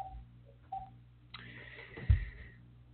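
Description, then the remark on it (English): A telephone rings on a live trading desk: two short electronic beeps, then a longer high, buzzy ring tone lasting over a second, with a low thump near the end and no talking. “That's why you're hearing that phone ring.”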